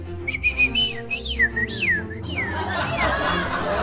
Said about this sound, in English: The birds sing.